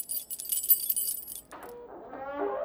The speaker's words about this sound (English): Maybe you can give me your spare key? I lost my copy. Duh. I mean, what girlfriend wouldn't have their boyfriend's key to his apartment? You mean these keys?